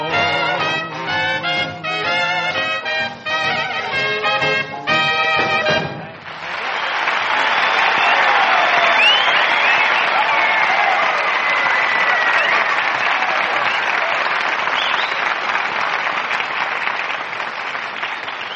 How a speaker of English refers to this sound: I don't know, those wolf calls and whistles can't be for me.